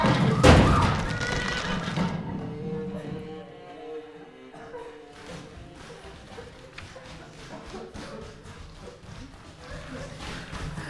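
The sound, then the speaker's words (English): A horse-drawn carriage overturns at a bridge after the lead horse takes fright and the carriage takes the summit too quickly, with a loud, heavy crash and thud in the first second. Rumbling, clattering debris follows and fades to a steady, noisy settling with faint animal cries. “The leader has taken fright. They are taking the summit too quickly. It's going to overturn.”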